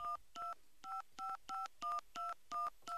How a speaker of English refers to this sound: So Pittsburgh's area code is 412. So I'm going to bring up the phone here and try and dial. Here, let me change lines here.